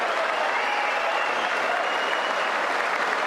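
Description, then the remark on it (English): An audience of Republicans, with some Democrats also audible, applauds steadily, dense clapping blended with a loud, sustained roar of voices that stays even and unbroken from start to finish. “Republicans roar. You could hear some Democrats.”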